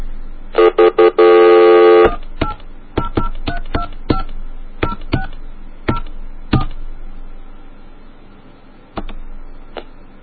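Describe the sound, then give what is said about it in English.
A brief steady tone, then a string of short touch-tone beeps as phone keys are pressed one after another at an uneven pace, fairly loud, with no one talking, while dialing an MCI rechargeable prepaid phone card to check how many minutes are left. “Let's just let's fake a call here and see how many minutes are left.”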